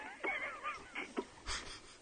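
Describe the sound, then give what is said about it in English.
Air squeaks and wheezes out of a deflating football in a series of short, uneven bursts, with thin whistling tones and a louder breathy hiss toward the end. No one speaks. “Is air coming out of a football?”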